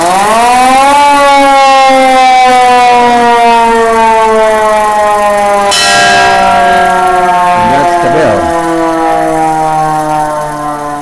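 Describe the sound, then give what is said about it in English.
A hand-cranked siren on an American LaFrance fire engine used for parades and festivals winds up to a loud, steady wail that holds for several seconds, sliding slightly in pitch, with a brief clanging bell rung partway through; no talking. “The fire chief rides up there and rings that bell while somebody also cranked this siren.”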